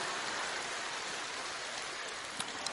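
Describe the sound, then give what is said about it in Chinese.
Steady applause from an audience of women, a dense crackling patter of many hands clapping at once with no pauses, holding an even level throughout, with a couple of slightly sharper claps near the end. “你让他去试试看，鼓掌的怎么都是女士了。”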